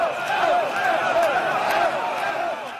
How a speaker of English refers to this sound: At the same time that European leaders and officials from the International Monetary Fund were hammering out the details of Ireland's bailout, people took to the streets to show their displeasure.